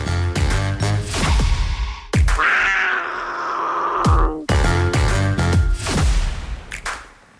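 A cat growls and yowls loudly in several harsh, abrupt bursts, with a longer drawn-out wail in the middle, and no talking.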